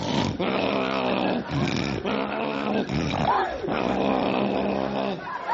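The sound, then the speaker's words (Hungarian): A voice imitates a sleeper who wakes himself up with his own snoring: a run of loud, raspy, growling snores in quick, uneven succession, each a throaty rumbling breath with little pause between them. “Aztán van olyan horkoló, amelyik a saját horkolására fölébred, és ráfogja a másikra.”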